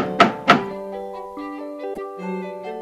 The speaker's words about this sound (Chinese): 当他们到达瑞比家的时候，小豆马上跳着去敲瑞比家的门。